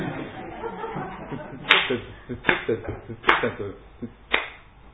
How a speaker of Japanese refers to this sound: 裏拍子と言いますがよくですね、こうあのってこう、あのこう教会でこの手拍子をするときもですね、違うんですね、この時々みんなこれ反対のところで叩いている方がいらっしゃいます。